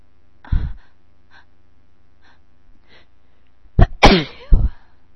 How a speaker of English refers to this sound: I'm gonna sneeze.